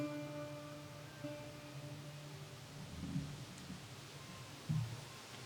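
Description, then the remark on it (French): Rain falls in a steady, soft hiss, with a low droning hum underneath and two brief muffled rumbles partway through. “Et la pluie tombe.”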